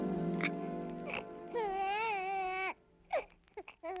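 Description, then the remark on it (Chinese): A newborn baby, Sarah's son Isaac, cries loudly, a long wavering wail followed by shorter gasping sobs and whimpers as the cry breaks off. “孩子的哭声真响亮，很健康，该叫他以撒。”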